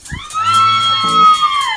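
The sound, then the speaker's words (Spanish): A voice imitating girls screaming for a band: one loud, high-pitched shriek held steadily for almost two seconds, with a faint lower voice murmuring underneath. “Ahí vienen las chicas que van a gritar por la banda.”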